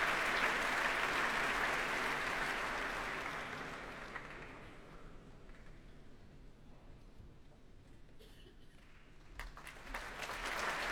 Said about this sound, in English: For now, though, Schubert, and applause now for the guest leader of the BBC Symphony Orchestra, Sergei Livitin.